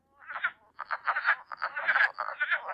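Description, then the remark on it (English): A dense chorus of frogs calling at once, overlapping nasal, bleating pulses in a steady, busy stream, loud, with no voices. “I want to play their call”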